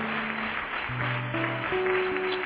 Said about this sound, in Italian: Amen. Forte applauso a Gesù. Alleluia. Alleluia.